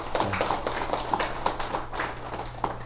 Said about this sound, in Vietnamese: Xin quý vị vỗ cho một tràng pháo tay thiệt to đi nè.